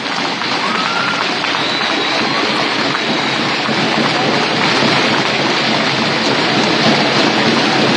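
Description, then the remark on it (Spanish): A large crowd applauds steadily for several seconds, a dense, even wash of clapping that holds at a constant loud level with no voices standing out, in tribute to former president Néstor Kirchner on the anniversary of his death. “Quiero recordar que un día como hoy falleció el expresidente, nuestro compañero Néstor Kirchner, para el cual pido un aplauso.”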